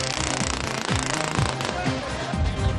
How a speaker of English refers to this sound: They've started the engine again.